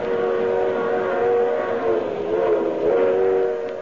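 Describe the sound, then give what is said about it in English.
A train rushes along at about 60 miles an hour on open track at night, thundering through a sleeping village: a steady loud roar with sustained tonal whistle-like bands that waver and swell slightly, continuous throughout with no voices. “We're running at 60 miles an hour on open track in the dead of night. Now we thunder through a sleeping village.”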